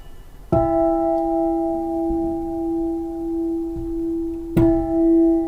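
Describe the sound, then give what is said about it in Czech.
A church bell on display as an exhibit is struck twice, about four seconds apart, each clang loud with a long, steady ringing hum that carries on between strikes. No one speaks. “To je tím, že málo kdy vidíme kostelní zvony vlastně takto zblízka.”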